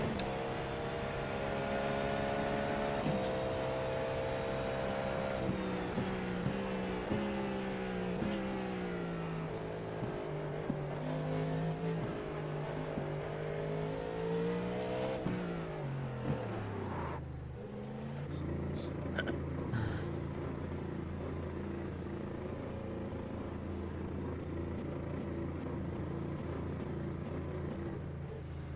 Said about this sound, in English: Car pitting in.